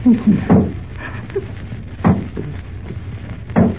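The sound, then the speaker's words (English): Sharp knocks tap against a door in slow, spaced bursts, roughly three distinct raps a second or more apart, with faint rustling in between and no speech. “He wouldn't tap like that.”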